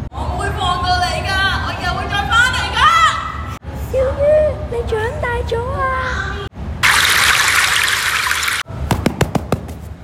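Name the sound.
running tap water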